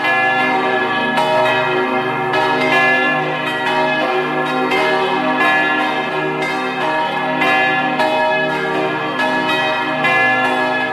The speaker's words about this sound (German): Es ist 12 Uhr. Sie hören die Glocken der Kirche zum heiligen Sebastian in Fontanella in Vorarlberg.